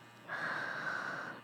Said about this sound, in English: The canary moaning and panting louder. Yeah, moan for me, baby. Moan for me.